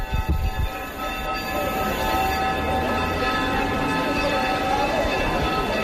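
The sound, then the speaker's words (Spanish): The bells of the Church of Santo Domingo in Huesca, Spain, ring at one in the afternoon on 31 March at the request of the bishops of Aragón, in a continuous, overlapping peal, their bright metallic tones sustaining and blending into a steady shimmering wash for several seconds. “Así han sonado, estas en concreto son las de la Iglesia de Santo Domingo, aquí en la capital alto aragonesa.”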